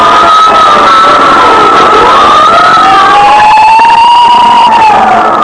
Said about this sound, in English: Every time I hear fire engines at night, I think of Harrison Murdoch and the Chantilly case.